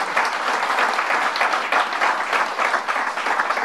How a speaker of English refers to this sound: The victims of child sexual abuse who fought the fight year after year after year, especially Marcy Hamilton, let's give them a round of applause.